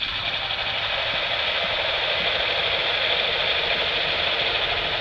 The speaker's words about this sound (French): C'est le bateau à moteur. Voilà, on entend très bien le moteur. Enfin, ça fait tondeuse. Hein? Donc il y a une tondeuse sous l'eau, c'est un bruit de pollution sonore.